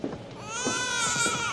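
An infant cries in a sustained, rising wail, loud, with a strained, tonal quality and no other sounds around it.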